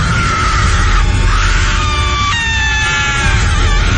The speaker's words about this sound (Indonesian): Seakan-akan dia sangat marah, namun kesakitan juga. Dan tiba-tiba saja perempuan itu berteriak sangat kencang.